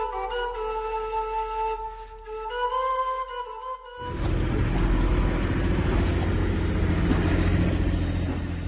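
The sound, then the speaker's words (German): A few seconds of tonal, melodic sound give way to a loud, steady wash of road traffic noise in the central Bohemian town of Kolín, Czech Republic, a dense rumble of passing vehicles that continues to the end without talk. “Zur Entlastung der Anwohner vom Verkehrslärm wird am südlichen Stadtrand von Kolín eine Umgehungsstraße gebaut.”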